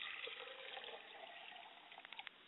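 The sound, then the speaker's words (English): Liquid is poured as a libation to a mother's spirit in a steady, hissing splash for a couple of seconds, ending with a few brief gurgling drips. No one speaks. “I pour a libation to my mother's spirit, and I say, Ashe.”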